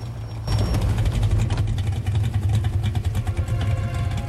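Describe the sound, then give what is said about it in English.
A car with four headlights idles with a steady low rumble as it pulls up alongside abandoned docks in the darkness, starting up abruptly after a brief quiet moment and holding a constant throbbing tone with faint rattling on top. “The car's four headlights break through the darkness as it pulls up alongside the docks.”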